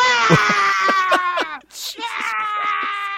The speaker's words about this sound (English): Sound of goats.